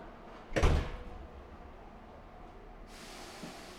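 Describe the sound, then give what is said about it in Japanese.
The exit-side doors of a local train to Osaka-Umeda at Nishinomiya-Kitaguchi station slide shut with one loud thud over the steady low hum of the waiting train, followed a couple of seconds later by a soft hiss of air. No one speaks. “降車の扉が閉まります。”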